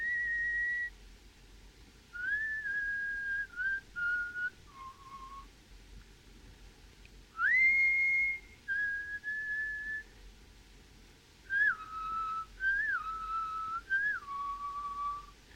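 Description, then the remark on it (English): In a noir film scene, a man whistles a waltz tune to himself, clear, in short phrases of sustained and gliding notes separated by brief pauses, over a faint low background hum. “she can hear Johnny whistling the waltz to himself”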